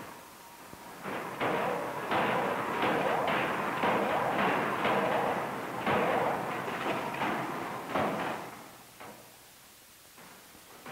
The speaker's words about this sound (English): This is a steam drop hammer. They are usually built bigger and heavier than gravity hammers, run in falling weight up to 50,000 pounds, and use a double-acting steam cylinder to raise the ram and to drive it downward